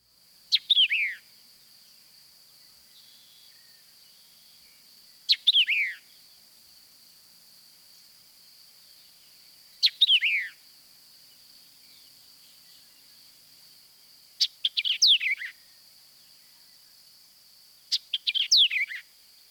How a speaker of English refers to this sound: Sometimes the white-eyed vireo gives a shortened version, but listen for the initial chick phrase, which is a common element in the song.